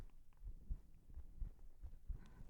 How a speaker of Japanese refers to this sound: こうすると、心臓の音がトクントクンって聞こえて落ち着ける。